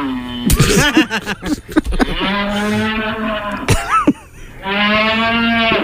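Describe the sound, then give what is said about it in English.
Bulls bellow in long, deep, droning moos, two sustained calls with harmonic tones separated by a burst of rougher snorting and grunting sounds. No one speaks. “You know how many bulls had to make those noises to get that semen?”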